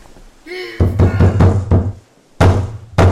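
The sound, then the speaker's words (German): Heavy pounding on a locked door, a rapid burst of loud, booming blows followed by two more hard strikes after a short pause. A brief cry is heard just before the pounding starts. “Die Tür ist abgeschlossen.”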